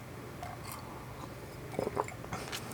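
Someone takes a quiet sip of chrysanthemum tea, with a few soft, wet slurping and swallowing noises clustered near the middle, heard alone without speech.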